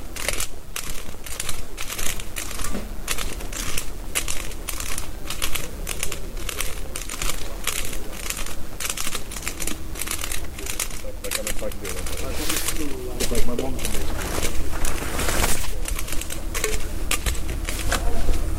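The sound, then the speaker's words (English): Road works machinery on a road at night rattles steadily, a dense run of sharp, irregular clicks and clatters at a fairly constant loudness with a low rumble underneath, lasting the whole stretch. “Road works here.”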